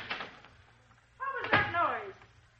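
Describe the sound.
A door opens and bangs shut in a short burst, followed by a voice calling out in rising and falling tones.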